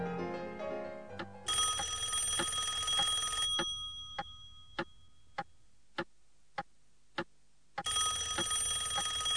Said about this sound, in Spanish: Maldito teléfono. No voy a contestar.